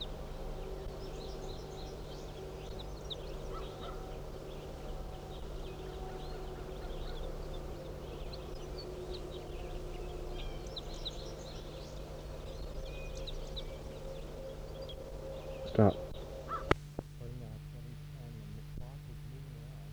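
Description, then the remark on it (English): A flock of about 25 fowl calls continuously, many overlapping squawks and cackles over a steady low hum, with a few sharp handling clicks near the end. “Stop recording. Start recording the flock.”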